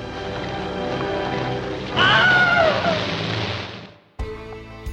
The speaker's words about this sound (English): And it had a scene where a man is walking across the Florida Everglades with other soldiers, and he's bitten and dragged underwater by an alligator. And they needed a scream for that.